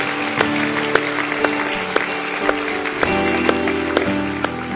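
A church audience applauds steadily for several seconds for people who made the choice to join the faith, a dense wash of clapping punctuated by a few sharper, louder claps, with a low sustained musical tone humming underneath and no talking.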